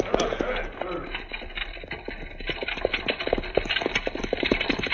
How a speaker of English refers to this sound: It's getting along towards dark. There they come now on the buckboard.